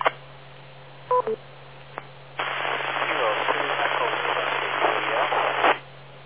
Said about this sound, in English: You were 90% noise, 10% audio, very low audio, very noisy signal.